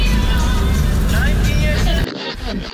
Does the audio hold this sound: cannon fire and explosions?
no